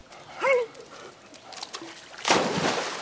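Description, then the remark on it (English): A brief high yelp, then a second later a loud, sudden splash as a dog, Harley, plunges into a backyard pool in Tucson, Arizona, to get a thrown ball, followed by continued sloshing and spray. “I said that he was going to jump in to get the ball, and he likes to jump in and get the ball.”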